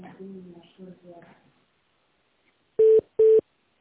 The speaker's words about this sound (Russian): линия занята. Немножко попозже можно попробовать.